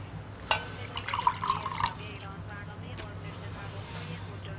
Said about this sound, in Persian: رضا کنارش میشینه و توی لیوان آب میریزه.